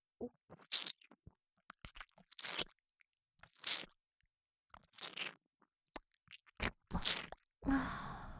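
Wet mouth noises echoing through a room: sticky squelching and smacking as semen is chewed and mixed in the mouth with puffed cheeks, coming in irregular bursts with short quiet gaps and a louder, longer stretch at the end. No talking.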